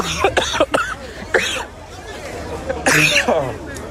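Several people cough and clear their throats in harsh, irregular bursts after being tear gassed, over a background of crowd chatter and babble.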